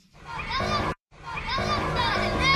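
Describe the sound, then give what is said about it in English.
Children playing and shouting outside, their high-pitched voices overlapping in a busy, steady stream that breaks off for a split second before carrying on. “No, those are the children outside.”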